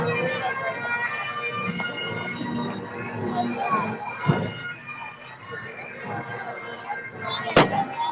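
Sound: balloon popping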